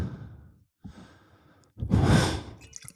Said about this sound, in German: Ich mag dieses leichte Atmen, was ich von dir hören kann.